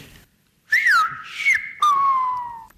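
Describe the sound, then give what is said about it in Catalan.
A name whistled in Silbo Gomero, the whistled language of La Gomera: three loud whistled phrases with rising and falling glides, the last a long tone that slowly drops, heard alone with no talking. “Lo mismo que decimos hablando, lo decimos silbando.”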